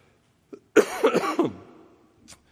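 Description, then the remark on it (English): A preacher in the pulpit lets out a harsh cough during a sermon; it bursts out and trails into a few raspy, voiced hacks lasting under a second, with faint clicks just before and after and no talking. “Yes, those of you who know, once I take a few weeks off, I come back coughing in the pulpit.”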